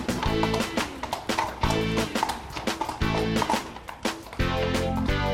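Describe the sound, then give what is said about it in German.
Police horses' hooves clip-clop on hard ground in a park in an uneven, steady walk, with loud brass band music playing continuously alongside them. “Hier im Park können wir auch gleich testen, ob unsere Polizeipferde was gelernt haben.”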